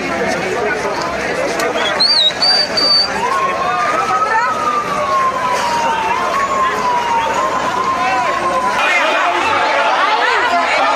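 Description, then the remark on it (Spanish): A protest crowd shouts slogans for and against the Havana regime, a dense, loud clamor of many overlapping voices that stays steady throughout, with a thin wailing tone faintly threading through the noise. “Una protesta donde se escuchan gritos a favor y en contra del régimen de La Habana.”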